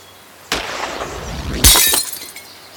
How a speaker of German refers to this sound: Diesen Becher aus bestem Glas in Wallensteins Hand soll die Kugel eines Stralsunder Schützen am 24. Juli zerschossen haben.